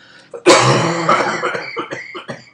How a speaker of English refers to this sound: Dude, this cough is killing me, man.